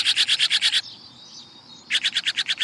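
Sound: blue jay raucous call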